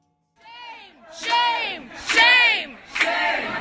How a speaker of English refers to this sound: You're listening to protesters shouting shame at embattled Homeland Security Secretary Kirstjen Nielsen this week while she was eating at a Mexican restaurant in Washington.